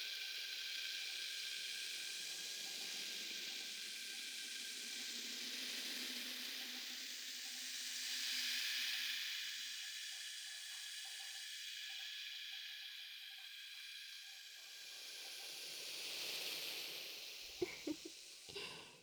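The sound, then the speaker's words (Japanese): A steady fizzing hiss of carbonated foam rubbed onto both ears, crackling softly and continuously, with a few brief sharper pops and clicks near the end. No one speaks. “ほら、両耳にすり込めている炭酸が少しずつ少しずつ泡立ってきました。”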